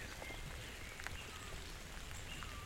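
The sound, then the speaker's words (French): Steady patter of raindrops falling on leaves and surfaces along the Cagir forest road overlooking a valley, a soft continuous hiss with scattered distinct drips, recorded outdoors with no voices. “ses gouttelettes de pluie.”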